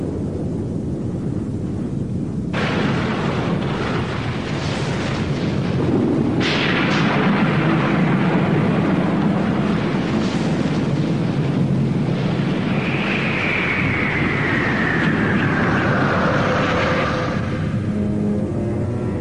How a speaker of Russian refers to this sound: Огромные волны, с ревом несущиеся к берегам, это яркий пример силы океана. Волны рождаются далеко в океане.